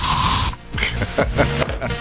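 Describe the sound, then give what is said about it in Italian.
A loud burst of aerosol spray hisses for about half a second, then cuts off as voices start talking over a quieter background. “No, ma non funziona lo spray.”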